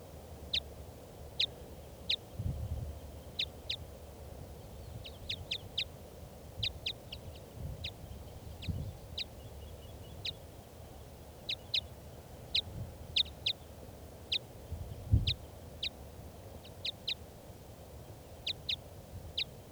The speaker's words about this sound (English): recording this, the wild bird.